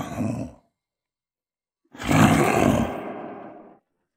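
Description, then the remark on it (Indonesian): An angry, frightened lion caught in a net trap roars loudly: a short burst that cuts off, then after a pause a longer, deep, rumbling roar that swells and fades over about two seconds. No one speaks. “Singa marah dan ketakutan sambil mengaum dengan keras.”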